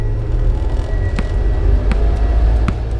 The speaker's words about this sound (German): Auf der Straße stieg er in ein Auto und fuhr davon.